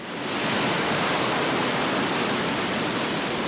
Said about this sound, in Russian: Огромная волна подхватила его и выбросила на берег.